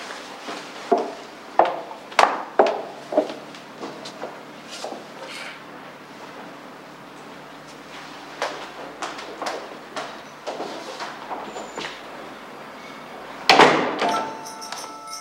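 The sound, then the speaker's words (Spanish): The door of Luisa's house swings shut with a firm thud near the end as Paco closes it, preceded by scattered lighter knocks, taps and shuffling movement. “Trini se aleja y Paco cierra.”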